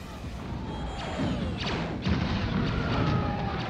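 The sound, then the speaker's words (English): Sci-fi space battle sounds as a new fleet of rebel fighters, just out of hyperspace, attacks: booming explosions burst loudly one after another over a continuous roar, with sweeping, zapping weapon blasts streaking through the dense, chaotic mix. “Commander, a new fleet of rebel fighters has just come out of hyperspace. We're under attack!”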